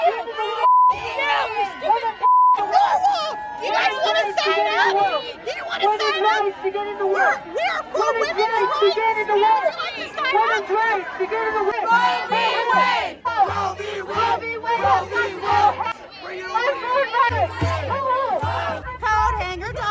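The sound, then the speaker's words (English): A pro-abortion protest crowd at a rally at the Arizona State Capitol screams and shouts continuously in loud, overlapping, high-pitched voices. A steady electronic beep sounds at the start, and low droning tones come in toward the end. “And you've got the pro-abortion side screaming until they're blue in the face.”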